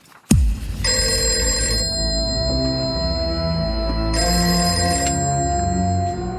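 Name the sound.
telephone bell ringing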